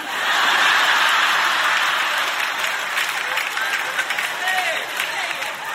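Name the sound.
people clapping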